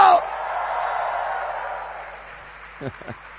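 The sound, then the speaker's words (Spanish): A church audience in Bella Vista erupts in loud, joyful shouting and cheering at the preacher's call for a shout of joy, swelling at once, then gradually fading over a few seconds before a single voice briefly speaks. “A ver, dale un grito de júbilo.”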